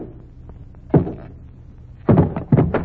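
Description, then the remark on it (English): Hammer blows knock against a wooden packing case lid: one loud thud, a pause, then three quick heavy knocks in a cluster, with no talking. “If you'd like to have the janitor help you, I'm perfectly capable of knocking the lid off a packing case without help from a janitor.”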